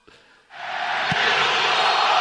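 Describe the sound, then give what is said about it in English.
Mexican national team fans in a big stadium erupt into a loud, sustained group cheer as the opposing United States team takes a goal kick, swelling suddenly after a quiet half-second and holding steady as a broad roar of many voices. “For those who are unfamiliar with the Mexican national team, whenever the opposing team has a goal kick, they do a group cheer.”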